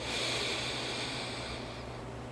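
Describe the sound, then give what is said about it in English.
A long, slow inhalation during a guided breathing exercise, a steady airy rush that holds for a couple of seconds and eases off slightly at the end, with no talking. “If you need to, just keep breathing in”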